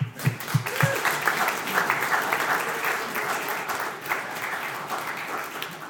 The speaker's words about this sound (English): And let's give the two men a round of applause.